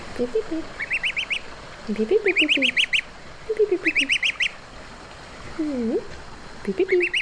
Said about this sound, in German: Ich ziehe Gänse auf. Also ich wohne in einer Waldhütte und kümmere mich um die Gänse, die mir den ganzen Tag hinterherlaufen.